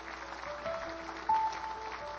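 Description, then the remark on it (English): A church audience gives the Lord a clap offering, clapping together in a dense, steady patter, with a few soft sustained keyboard notes held underneath and a brief louder swell near the middle. “Would you give the Lord a good clap offering?”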